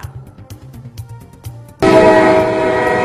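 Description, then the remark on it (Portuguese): A loud train horn blasts suddenly after a short stretch of low rhythmic rumbling, holding a sustained, harmonically rich tone until the end. “O trem quase que não apita dessa vez.”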